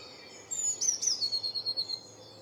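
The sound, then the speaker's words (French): A tit sings in a garden, a quick run of high, thin notes, starting with a couple of sweeping chirps and then settling into an even, rapid trill for about a second and a half. No voices. “Ah, ça, c'est une mésange.”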